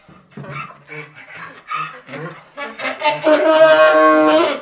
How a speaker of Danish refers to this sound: Og selvom det lyder som en gris, der spiller på trombone, så er det faktisk et æsel.